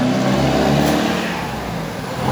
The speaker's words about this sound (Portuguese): Ó, o caminhão. O cara buzinou, não sei se é porque eu fiquei apontando pro caminhão, pra quem tá ouvindo, foi eu o caminhão que apontando aqui.